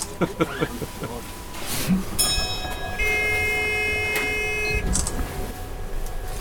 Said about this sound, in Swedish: Ja, det där låter som en gammal spårvagnssignal. Ja, det var väldigt likt. Det var nästan som man var i Göteborg där.